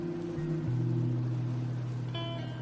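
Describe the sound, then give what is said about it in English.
A boat carrying climbers and their gear motoring south on the water toward Corcovado in the early morning, its engine a steady, droning hum that dips in pitch briefly at the start, then holds constant throughout with no voices. “They set out in the boat and organize their climbing gear as they make way further south.”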